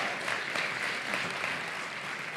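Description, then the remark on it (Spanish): A crowd applauds steadily for Cuatro Picas, the announced winner in a sports award category, a dense wash of many hands clapping at an even loudness for a couple of seconds, with no one speaking over it. “Un fuerte aplauso.”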